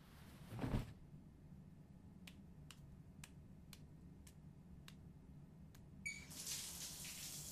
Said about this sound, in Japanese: ああ、シャワーどう？ちゃんと出てる？温度。うんうん、いいでしょう。じゃあ後ろ向いて。うん、流してあげる。